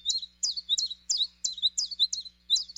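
A male bluethroat, with a vivid azure throat and upper breast rimmed with rust, sings in the Arctic in spring: a quick, repeated run of high, insect-like trills and thin whistles with buzzy notes, about eight bright phrases in steady rhythm, with no talking.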